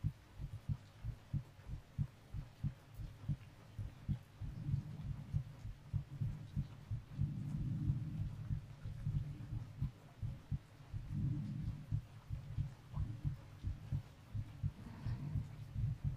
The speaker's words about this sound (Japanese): わかるでしょ？私の心臓の鼓動、私もさっきから聞こえてるよ。君の心臓の鼓動が。